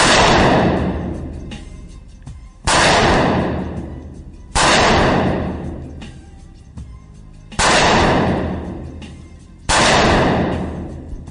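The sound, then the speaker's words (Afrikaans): Five loud, sharp shots from a .223 rifle fired at a target 25 metres away, two at the head and three at the body, at an uneven pace, each a hard crack followed by a long rolling echo that fades before the next. No talking. “Dis 'n 223. So kom ons kyk hoe dit gaan. Hoeveel meter? 25 meter skiet.”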